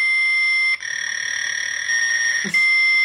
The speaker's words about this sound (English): This one is Fax Machine.